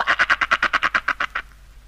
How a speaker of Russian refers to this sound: Она уж никак не могла удержаться, чтобы не квакнуть хоть разик.